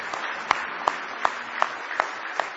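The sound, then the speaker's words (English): A church crowd in Happy Valley gives the Lord a hand clap of praise, clapping together in a steady, rhythmic beat, with sharper unified claps standing out about every third of a second over a dense wash of scattered hand claps. “Give the Lord another hand clap of praise tonight if you love Him.”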